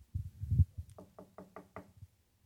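Knocking on a door at night by Peter (Pierre) in a retelling of the Bible story: a few dull, heavy thumps, then a quick run of five evenly spaced raps, fairly loud, with no voices.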